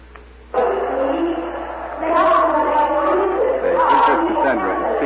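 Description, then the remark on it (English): A crowd of citizens carrying torches gathers in the main market square of Troy: chatter bursts in after a brief hush, many overlapping voices forming a dense hubbub that swells louder partway through and stays busy to the end. “Crowd growing every minute.”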